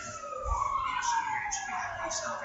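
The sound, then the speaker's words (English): A real emergency vehicle's siren wails outside, its tone sliding steadily downward as it passes by, steady and fairly loud over faint background voices and street noise. “Sirens are real-life sirens.”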